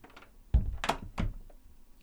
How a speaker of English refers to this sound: Close the door on your way out.